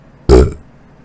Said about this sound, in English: Oh, I got a burp. It's sitting, like, midway. Get it. It's painful.